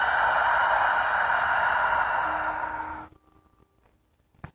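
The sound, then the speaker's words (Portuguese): A long, deep breath in and out fills the first three seconds with a steady airy rush, then cuts off into near silence, with only a small click toward the end. “Puxamos mais uma respiração profunda e soltamos.”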